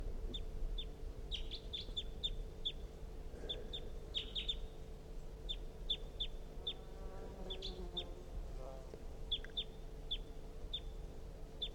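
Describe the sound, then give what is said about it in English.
Short, high-pitched bird chitter notes from a recorded decoy call pointed at a wild bird repeat in quick, fairly regular bursts over a steady low hum, with a few softer warbling calls mixed in. No one speaks. “It's giving some kind of a chitter note.”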